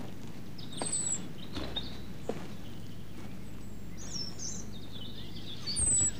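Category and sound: bird, european robin alarm call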